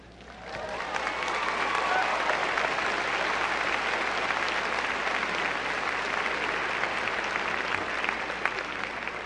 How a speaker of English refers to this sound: The husbands are applauding too.